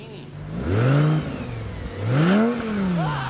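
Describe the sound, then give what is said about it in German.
A Lamborghini sports car engine revs hard twice, its pitch climbing and falling in two loud surges with a brief dip between them; no voices are heard. “ich glaube, das Auto gehört tatsächlich Bam Margera”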